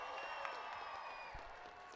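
A crowd applauds in a dense, steady wash of clapping that holds at an even level for about two seconds, with a faint sustained tone running underneath.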